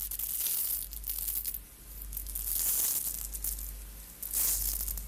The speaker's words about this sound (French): Entre autres, voici cette fille qui brasse des grains de riz.